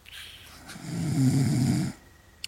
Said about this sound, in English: He's snoring now.